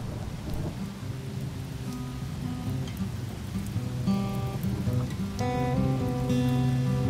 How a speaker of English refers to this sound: In addition to the solar flares and solar eclipse that are emerging at the cusp of the Earth's atmosphere, a summer storm begins its torrential downpour.